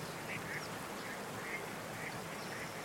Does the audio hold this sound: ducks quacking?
yes